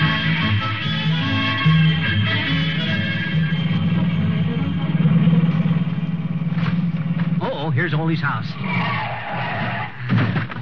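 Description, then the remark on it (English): A car engine hums steadily as it approaches, then tires squeal and warble loudly as it brakes hard to a stop. A man speaks briefly over the engine noise. “Gotta get them brakes fixed.”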